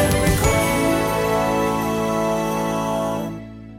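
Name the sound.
telephone ringing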